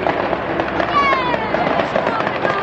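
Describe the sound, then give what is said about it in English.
A farewell fireworks display for the GLC at County Hall crackles and pops steadily at the first chime of midnight on April 1st, thin whistling streaks rising and fading as rockets fly up from behind the building, under a continuous wash of outdoor crowd noise and murmuring voices. “And there goes the farewell fireworks display.”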